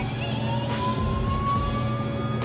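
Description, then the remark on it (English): A police car siren's steady wailing tone rises slowly and continuously over a low, constant engine rumble, loud with no voices present. “If you hit the horn, it'll change the siren sound also.”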